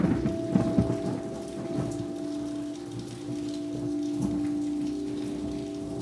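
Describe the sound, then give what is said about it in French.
Steady rain falls continuously, a dense hiss of patter with scattered heavier drops and a low rumble underneath, plus a faint constant hum; no one speaks. “Et soudain, on a eu la pluie.”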